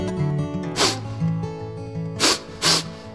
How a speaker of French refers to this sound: Ça, c'est moi qui renifle.